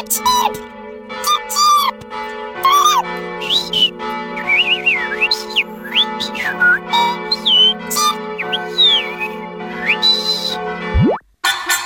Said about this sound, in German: Als ihr unvermittelt ein Vogelbaby von oben vor ihre Füße stürzt und aufgeregt chirpt.